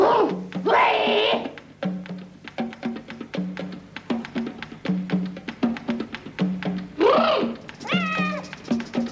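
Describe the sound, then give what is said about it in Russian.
A cat meows loudly in an apartment, a drawn-out cry near the start and two more toward the end, with softer rhythmic clicking sounds filling the gap between. “Преследуя кошку, девушка появляется в квартире на четвереньках.”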